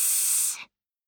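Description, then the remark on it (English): A single sharp snake hiss, loud, a breathy burst lasting just over half a second before cutting off into silence. “A snake hisses to frighten other animals.”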